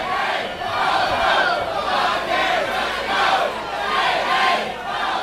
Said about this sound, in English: … struggles to overpower the crowd, clad in matching shirts, signs, and equipped with orchestrated chants.